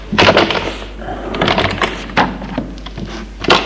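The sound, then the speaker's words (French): A small medicine cabinet door in a bathroom opens with a series of light wooden knocks, clicks and soft rattles spread over a few seconds, with no voices. “Ouvre l'armoire à pharmacie.”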